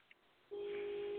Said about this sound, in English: There we go. My alarm just went off. Sorry about that.